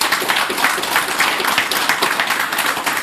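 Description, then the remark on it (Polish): Steady applause from an audience at a pre-election evening event, given for Arkadiusz Bogan, a dense crackle of many hands clapping that holds at an even, fairly loud level throughout, with no voices standing out. “Był z nami też Arkadiusz Bogan, tak wirtualnie trochę, ale również brawa dla niego.”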